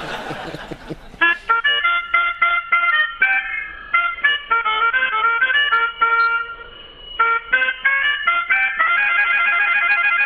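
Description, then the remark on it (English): A musician plays a melodica in a lively, reedy tune, with quick staccato notes and some held chords, bright and fairly loud throughout, with no talking over it. “…, would you mind just letting everybody hear how a little old melodica sounds? Oh, yeah, I'll give it a little toot for you.”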